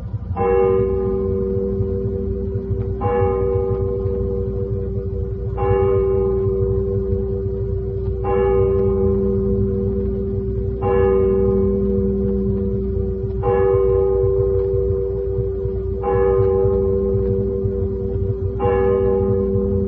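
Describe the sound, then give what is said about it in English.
A church clock down in a valley strikes eight slow, even times, each deep ringing stroke swelling and then fading into a steady humming resonance before the next one arrives. “And then down in the valley, the church clock began to strike.”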